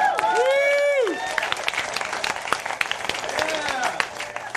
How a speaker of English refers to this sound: Everyone applaud. I just finished my last song. Sounds like a small venue. Okay, hold on. Do applaud again.